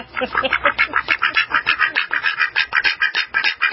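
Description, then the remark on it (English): A rapid, steady run of nasal, raspy duck quacks, roughly five or six per second, loud and continuous with no voices over them. “Oh, those lame ducks, and he can spring them on me any time, and I have no way to get back at him.”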